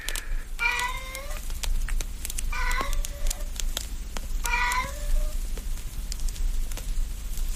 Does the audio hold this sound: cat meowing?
yes